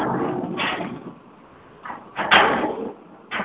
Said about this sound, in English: Kano's on the other end banging on steel plate.